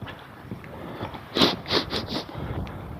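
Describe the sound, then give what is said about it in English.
Four quick, breathy sniffs through a cold nose, made while walking outdoors in the sun with the wind behind, in a rapid uneven run with the first one loudest, over a soft rustle of wind noise and no talking. “Yeah, I'm sniffing because my nose is cold.”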